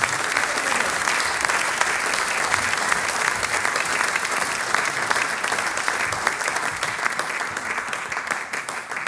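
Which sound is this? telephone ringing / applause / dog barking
applause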